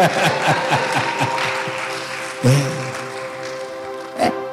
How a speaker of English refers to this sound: Please clap for my little girl